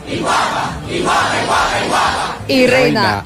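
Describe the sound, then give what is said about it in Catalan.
A loud, sustained group shout, an empowerment battle cry, many voices roaring together for a few seconds, ending in a single strong voice yelling over the crowd. “Jo aquest crit d'empoderament, que sabeu que no necessito, o sigui, jo faig com a teràpia per la gent que ens escolta, perquè jo ja estic empoderada.”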